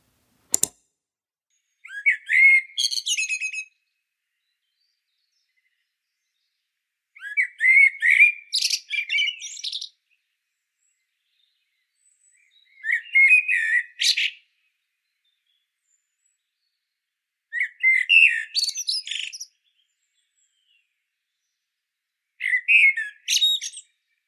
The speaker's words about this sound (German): Ja, die erste Stimme, die wir gehört haben, war der Gesang einer Amsel. Wahrscheinlich haben das die meisten in den letzten Tagen auch schon mal gehört. Irgendwo rund ums Zuhause in einem Park oder so. Eine sehr häufige Vogelart in Österreich.